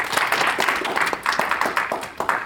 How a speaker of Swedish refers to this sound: Dags för applåd.